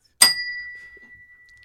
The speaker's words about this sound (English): We love hit that Nepo bell, baby.